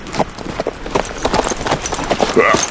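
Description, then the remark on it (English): Horses gallop with a rapid, uneven drumming of hooves, loud and steady throughout, with a brief higher-pitched tone near the end, as a band of half a dozen horsemen rides by moonlight from a campfire. “Illumined by the white disk of the moon, a band of horsemen galloped toward them from the distant flickering firelight.”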